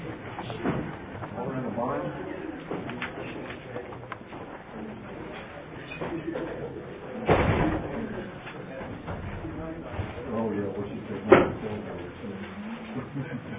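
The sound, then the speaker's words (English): A back door thuds shut amid the murmur of a meeting, with a second sharp knock a few seconds later, while people keep talking in the background. “can you shut the back door? The door! Thank you.”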